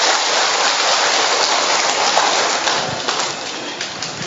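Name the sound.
round of applause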